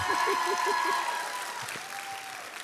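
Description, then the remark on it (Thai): A crowd applauds steadily for a model father, a dense wash of clapping that stays fairly loud before tapering slightly toward the end, with no one speaking. “พ่อตัวอย่างไหมฮะขอเสียงปรบมือหน่อยสิฮะ”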